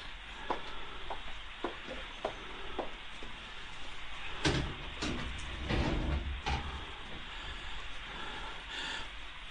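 Small clicks and rattles followed by a few louder scraping, thudding bursts as a window is opened, all over a steady background hiss; no one speaks.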